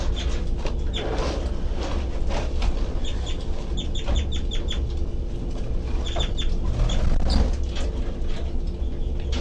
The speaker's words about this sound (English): Doing the high pitched C call stuff. Start calling again, baby birds.